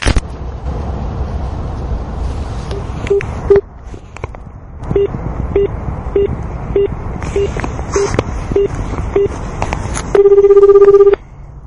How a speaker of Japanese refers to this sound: じゃあこの人に電話してみましょう。